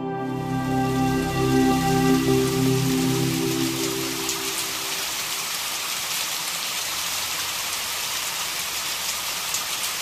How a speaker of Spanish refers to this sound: Y Araí dejó caer una suave lluvia.